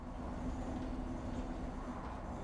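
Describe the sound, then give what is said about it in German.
Steady low rumble of a moving train heard from inside the carriage, with a constant mechanical hum and dense rolling noise, no voices present. “Manchmal brauchte er es, in den Zug zu steigen und einfach loszufahren.”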